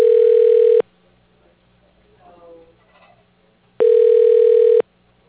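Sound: phone line ringing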